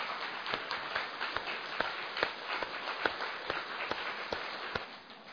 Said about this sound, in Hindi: थोड़ी तालियां बजाएंगे जरा।